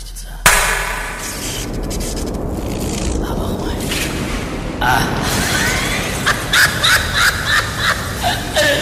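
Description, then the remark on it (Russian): A single loud, sharp hand clap cracks out near the start, followed by several seconds of dense, noisy rumbling with rhythmic bursts toward the end. “Я сейчас хлопну в ладоши, и пусть атомный реактор воображения наших зрителей запустится.”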